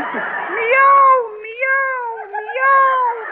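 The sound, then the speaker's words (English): A person playing the part of a cat imitates a long, drawn-out meow that wavers up and down in pitch for several seconds. It is loud, with a thin, tinny quality. “Well, I picked out the part of a cat.”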